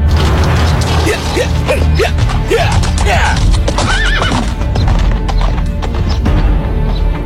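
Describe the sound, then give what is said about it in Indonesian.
Horse hooves clip-clop steadily as a man, having untied his horse's tether and jumped onto its back, rides it, with a whinny rising partway through over a busy, loud background of rustling and clattering. “Setelah melepaskan tali pengikat kuda, ia segera melompat ke atas punggung binatang itu.”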